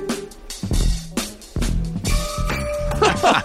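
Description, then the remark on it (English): A bright jingling sleigh bell shakes in rhythm over a punchy funk beat with thumping bass and sharp drum hits, loud throughout. “That is definitely a sleigh bell.”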